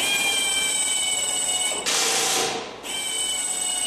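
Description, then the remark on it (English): A steady, high machine whine fills an aircraft-assembly training workshop for young people in Andalusia, broken midway by a roughly one-second burst of harsh, hissing power-tool noise before the whine resumes. No one speaks. “This workshop trains young people for good jobs in aircraft assembly.”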